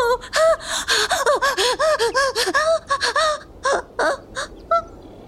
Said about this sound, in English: Her heart rate is off the charts, and she's burning up. What happened? She just started breathing so fast.